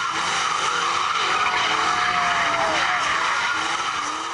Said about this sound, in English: Oakland's sideshows are notorious. They usually happen late at night. Word gets out, and soon hundreds of people show up to watch as drivers compete by spinning their cars around at intersections or street corners.